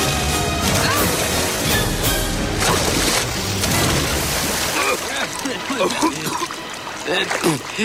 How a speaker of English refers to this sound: They plummet to the river below. They bounce off some rocks, then roll into rapids. They fall down small waterfalls and careen off protruding rocks.